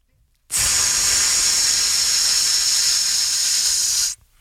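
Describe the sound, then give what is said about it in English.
Air rushes out of a balloon in one loud, steady, high-pitched hiss that starts abruptly, holds for about three and a half seconds, then cuts off suddenly. “That's the air leaving the balloon.”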